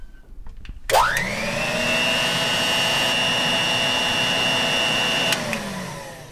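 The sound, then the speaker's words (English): A Kenmore Commander tank vacuum cleaner switches on with a sharp click and a rising whine that climbs quickly into a steady, loud motor roar, holding constant, with no talking. “That's a Kenmore Commander tank type, for the record.”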